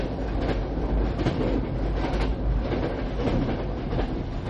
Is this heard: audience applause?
no